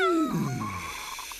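A single drawn-out meow, voiced by a person imitating a cat, starts loud and high and then slides downward, trailing off into a softer, fading tone.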